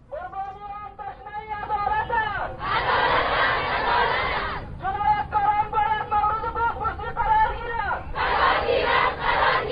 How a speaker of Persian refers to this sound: ده تن از وابستگان این قربانیان در آستانه هفته حقوق بشر و روز جهانی حقوق بشر با راهپیمایی در شهر کابل و سر دادن شعارها خواهان عدالت و محاکمه جنایتکاران و عاملین انتحاری و شناسایی